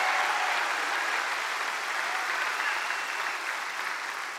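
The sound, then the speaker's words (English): An audience claps and shouts praise to the Lord in a dense, steady wash of applause that holds strong throughout, with scattered raised voices blending into the rapid clapping before it eases slightly at the end. “Give the Lord a shout of praise and a hand clap in this house.”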